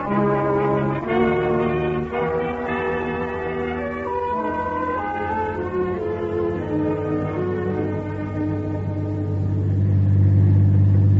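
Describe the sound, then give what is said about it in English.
A car engine drones steadily while driving, its low rumbling hum shifting in pitch and swelling louder toward the end. No one speaks. “Well, let's hope they keep driving through.”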